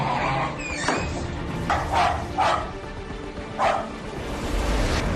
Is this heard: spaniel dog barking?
yes